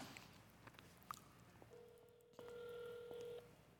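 Electronic telephone dialing tones as a phone call is placed: a short beep, then a steady tone that shifts into a brighter multi-pitched tone lasting about a second. Fairly quiet, with faint room noise and no voices.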